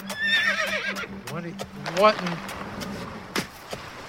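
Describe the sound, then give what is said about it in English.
A horse whinnies loudly and shrilly for a couple of seconds, its call wavering and dropping, while hooves clop in an irregular rhythm that continues after the neigh fades, as its rider tells it to slow down. “Whoa! What's that ahead? Slow down, horse.”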